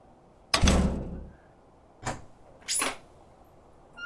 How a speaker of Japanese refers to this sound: なぜ扉を閉めた？